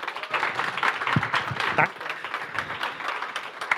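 An audience gives a guest a big round of applause to thank him for his time: a dense, continuous wash of many hands clapping at a fairly even loudness for a few seconds, with a few sharper individual claps standing out.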